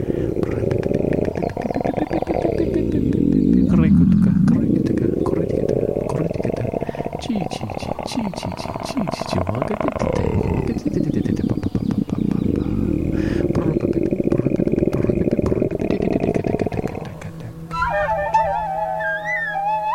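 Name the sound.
tiger roaring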